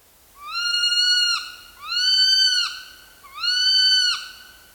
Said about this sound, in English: If you decide to do this in your neighborhood, make sure to throw in a northern saw-whet owl.